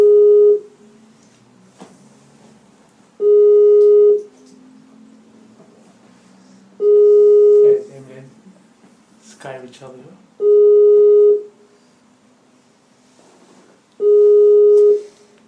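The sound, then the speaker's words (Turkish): An outgoing call's ringback tone sounds five times in a steady pattern, each roughly one-second beep followed by a longer pause, with quiet talking murmuring between the rings. “Çalıyor.”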